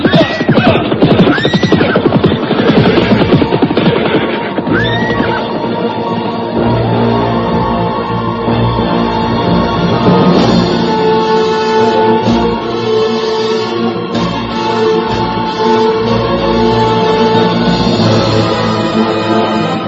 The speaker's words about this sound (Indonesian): Sekarang kita bisa kembali meneruskan perjalanan dengan kuda. Hiya, hiya, hiya, hiya, hiya.